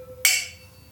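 wine glasses clinking

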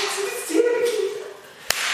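hand clap

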